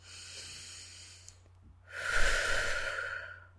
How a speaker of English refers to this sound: It's kind of exaggerated, but yes, I'm breathing.